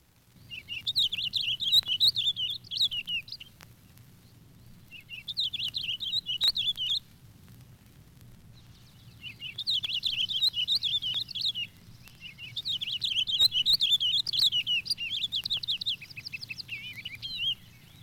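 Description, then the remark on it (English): A green singing finch (African siskin) sings bright, rapid twittering phrases in four sustained bursts with short pauses between, clear over a steady low background hum. “One is tiny, charming, and petite, the African siskin or green singing finch. Listen to his delightful wild song.”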